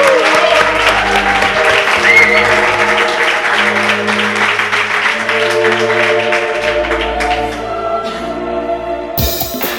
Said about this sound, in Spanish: Aplauso, por favor, aplauso. Fuerte.